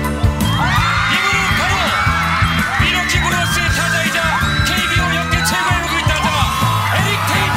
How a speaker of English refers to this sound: Eric Thames was revealed on over the weekend. The crowd goes nuts for him, and then listen to how good he is.